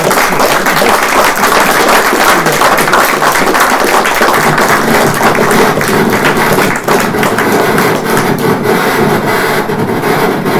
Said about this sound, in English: We are British and conservative evangelicals, so something needs to be really good to provoke a round of applause. But I think this might be one such occasion.